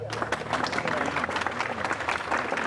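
An audience applauds a group of girls and boys for work they carried out, a dense, steady patter of many hands clapping at once that keeps up without a break for the few seconds, with a faint murmur of the crowd underneath.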